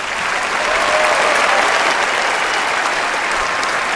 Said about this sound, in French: Oui, applaudissements nourris évidemment pour Remco Evenepoel qui à 24 ans remporte donc sa première sur le Tour.